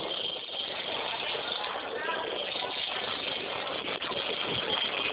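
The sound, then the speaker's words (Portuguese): A truck engine rumbles loudly and steadily, a dense, continuous roar that fills the whole few seconds without easing off. “Calma aí, deixa eu passar do barulho do caminhão.”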